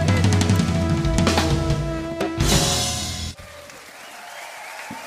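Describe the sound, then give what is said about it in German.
Recorded applause and cheering played from tape at a streamed concert by musician Lulu Reinhardt on the stage of Café Hahn in Koblenz. It plays loudly over a sustained musical tone, swelling into a dense burst of clapping before cutting off abruptly and leaving a quieter, hissy tail. “Der Applaus kommt aber nur vom Band.”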